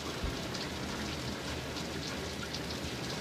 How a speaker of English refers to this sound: Something about the sound of running water, man. Oh my god. My water just sounds so relaxing. Alright. That's enough running water for me.